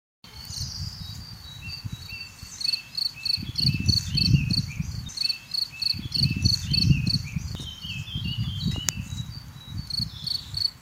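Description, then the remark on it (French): Field crickets chirp steadily in rapid pulsed trills, several insects layered, over a low rumbling background of wind or other noise, with no voices. “Qui n'a jamais entendu le chant du grillon champêtre ou grillon des champs ?”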